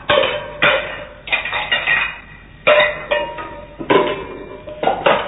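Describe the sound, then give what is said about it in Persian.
A man throws kitchen dishes and pans around; they clatter and crash in a string of loud, sharp impacts, each burst of clanging metal and ceramic ringing briefly before the next, with no voices. “بله، بازم بنا کرد ظرفای آشپزخونه رو این طرف و اون طرف پرتاب کردم.”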